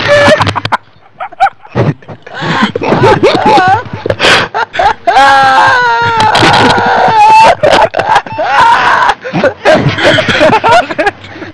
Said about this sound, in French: Ah, la chèvre.